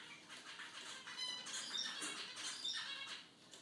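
A pet bird squawks and chatters in a run of scratchy, high-pitched calls with a couple of brief whistled squeaks, fairly quiet, with no one talking.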